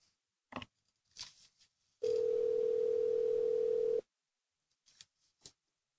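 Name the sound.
telephone ringing tone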